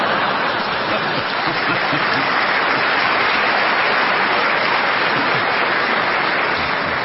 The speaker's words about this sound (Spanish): Me imagino que los que acaban de aplaudir eso no van a venir mañana.